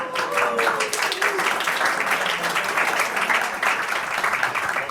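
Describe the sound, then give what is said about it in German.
Sustained applause from a sizable crowd at an event, thanking the organisers and hosts, dense overlapping claps filling the whole stretch at a steady, fairly loud level, with a faint whistle-like tone briefly sliding through near the start. “Nochmal bitte großen Applaus.”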